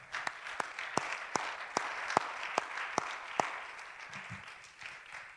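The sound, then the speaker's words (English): A crowd gives a hand clap of praise in Jesus' name, a steady wash of many hands clapping with a few louder, sharper claps landing in a rough rhythm before the noise starts to thin out. “In Jesus' name, can we give him a hand clap of praise?”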